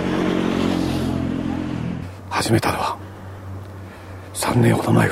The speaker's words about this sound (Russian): Свой модифицированный трехколесный мотоцикл Тибэтмен сделал сам.